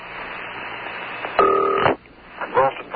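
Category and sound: signal or alarm, telephone number being dialed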